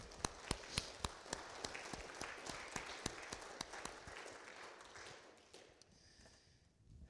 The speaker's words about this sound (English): Yeah, let's clap.